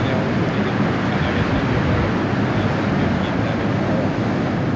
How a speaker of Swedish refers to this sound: Det blåser hårt och dånar från forsen så att man inte hör replikerna.